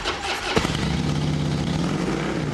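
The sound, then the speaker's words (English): One of the latest Japanese racing motorcycles, ridden around city streets, bursts into a loud, throaty roar after a brief rush of noise, then holds a steady drone with no voices. “Now, burgeoning numbers of leather-clad riders are tearing around the streets on the latest Japanese racing bikes.”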